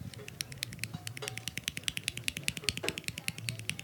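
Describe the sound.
A woodpecker in the forest pecking on a tree, imitated with fast, sharp, clicky taps in a steady rapid rhythm for several seconds, with a faint low murmur of voices underneath.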